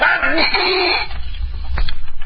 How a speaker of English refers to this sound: Who sneezed? I did. I got a cold. Gesundheit. But next time, cover your mouth.